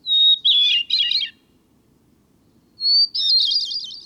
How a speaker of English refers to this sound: Clearly, the bird's most distinguished attribute is its song. Even within the thrush family, which includes many highly renowned singers, the hermit thrush stands out. Its song has been described as ethereal, serene, or flute-like.